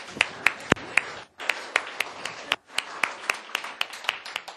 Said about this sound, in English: Let's give them all a clap.